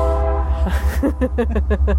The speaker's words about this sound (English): Hello, train.